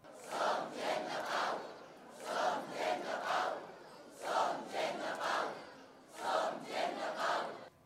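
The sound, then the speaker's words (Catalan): A large crowd in Catalonia chants in unison after singing Els Segadors, four rhythmic bursts of the shouted slogans "Som gent de pau" and "els carrers seran sempre nostres" mixed with final applause, loud and reverberant with a constant murmur of many voices between phrases. “Els aplaudiments finals es van combinar amb els crits de Som gent de pau i els carrers seran sempre nostres.”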